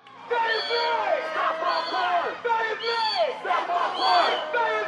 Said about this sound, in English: That's a crowd in Sacramento, California this past spring chanting the name of an unarmed black man killed by police.